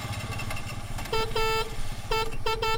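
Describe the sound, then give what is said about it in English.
The engine of a Piaggio Ape, a small three-wheeled truck with one front wheel and two rear wheels, putters steadily while its horn honks in several short and longer bursts, loud over the rumble, with no voices. “Narrow alleys, tall sloping buildings, cobblestone streets, and a tiny three-wheeled truck that seems to defy gravity.”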